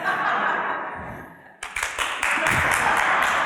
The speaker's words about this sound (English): They teach you in preaching class, you pause when you make a good point. And you wait till people applaud.